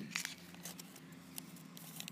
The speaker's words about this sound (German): Sie zerreißt gerade das Papier. ASMR. Das... Mach. Zerreißt das Papier. Zerreißt das Papier. Schon laut.